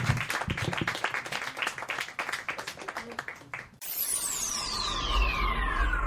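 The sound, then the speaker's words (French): An audience claps steadily in a dense burst of applause for about four seconds, then it cuts off abruptly into a sweeping electronic tone with a descending whistle over a low hum. “Une bonne main d'applaudissement pour JF Denommé!”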